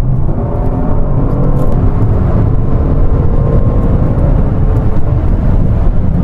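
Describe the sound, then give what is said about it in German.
A race car on a track roars loudly for several seconds as its rear is pushed outward at a corner exit. The engine makes a dense, steady mechanical drone with a rough low rumble, and there are no voices over it. “Also er drückt wirklich am Kurvenausgang das Heck nach außen.”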